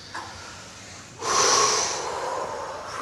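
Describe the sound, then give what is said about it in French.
A deep breath is drawn in through the nose during a guided relaxation exercise, a loud airy inhale starting about a second in and stretching out for nearly two seconds, with no talking. “Et maintenant, vous prenez une grande respiration.”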